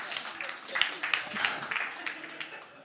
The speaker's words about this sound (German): Ein Applaus für euch.